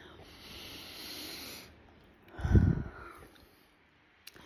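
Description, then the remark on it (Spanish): A slow, airy deep inhale lasting over a second, a brief pause, then a heavier, breathy exhale with a low rush, alone without speech. “Y comenzamos con una respiración profunda que nos trae aquí.”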